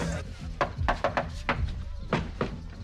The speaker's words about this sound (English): knocks on the door.